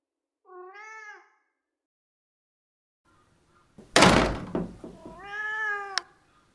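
A cat, Boris, up at the top of a tree, lets out two drawn-out, wavering wails separated by a pause, with a loud thump and rustling clatter just before the second cry; no one speaks.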